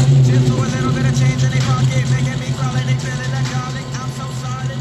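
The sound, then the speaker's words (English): A Lamborghini engine rumbles loudly and steadily for several seconds, its deep idle with slight rises in pitch, with faint voices murmuring underneath. “that's my old house where I put the Lambo in the den.”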